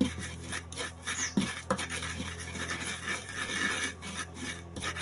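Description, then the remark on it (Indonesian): Spices with half a spoon of salt and half a spoon of MSG are ground by hand with a steady, gritty rasping and scraping, continuous and moderately loud with uneven strokes, and no one speaks. “Kita haluskan.”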